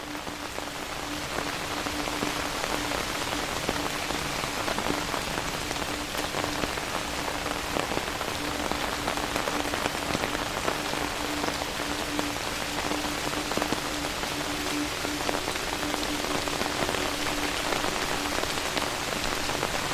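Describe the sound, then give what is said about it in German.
Steady rain falls on a surface on an autumn evening, a dense, even patter of countless drops that holds constant for the whole stretch, moderately loud, with no voices. “Mit Vorfreude setzt du deinen Weg fort, begleitet vom beruhigenden Klang des Regens.”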